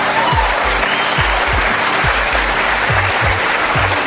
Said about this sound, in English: The mention of the execution of 234 people drew applause. I think Americans understand justice.